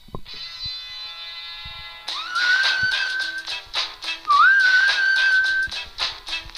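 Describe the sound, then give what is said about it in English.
A phone ringtone plays on its own: a steady buzzy electronic tone for two seconds, then a punchy rhythmic beat with a bright whistled melody sliding upward twice, fairly loud. “Oh, it's my ringtone. Wait, here's my ringtone.”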